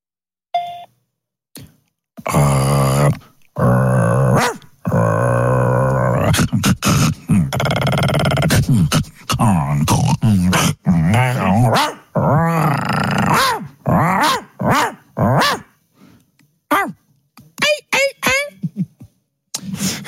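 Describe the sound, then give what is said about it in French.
Dog growling, interspersed with whiny, rising vocal yelps in bursts over about twenty seconds, loud, with short pauses between outbursts. “Qui est con ce chien là?”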